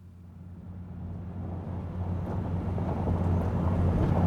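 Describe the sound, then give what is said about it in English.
A car drives slowly through snow with a steady, low engine rumble, accompanied by a soft wind-like hiss that gradually grows louder over a few seconds. No voices. “car makes its way slowly through the snow.”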